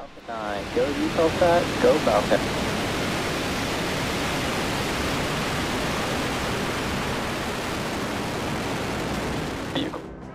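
A Falcon 9 rocket's engines roar at launch from launch pad 39A, a dense, steady rushing thunder that fills the whole stretch without letting up, with a brief voice heard over it at the start.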